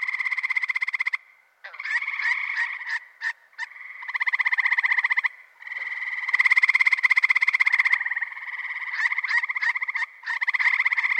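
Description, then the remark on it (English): Loud, continuous calling of male frogs giving advertisement calls that signal to females and warn rival males, a rapid trilling chorus of pulsed croaks in long bursts with brief pauses, several overlapping callers and no talking. “The males are producing what are called advertisement calls.”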